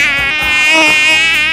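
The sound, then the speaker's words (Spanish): A mosquito buzzes in a steady, high-pitched whine that drones on without a break, loud and alone, with a slight wavering in pitch. “El mosquito.”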